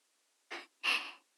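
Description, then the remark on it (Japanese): Two soft breaths of a sleeping person, a short airy inhale followed by a longer, slightly louder exhale, quiet with no talking. “あ、寝息だ。”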